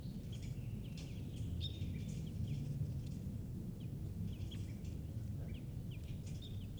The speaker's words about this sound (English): And a wild bird is here giving alarm calls. 518 there.